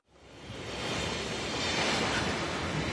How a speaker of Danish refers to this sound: Det er tog. Det er rigtigt.